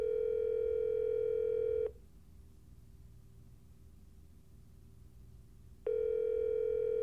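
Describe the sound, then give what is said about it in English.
A phone line tone while a call is placed: a steady electronic buzz for about two seconds, a four-second lull with only a faint hum, then the tone returns. No one speaks. “So do you mind if I phone in Linus for the rest of this call?”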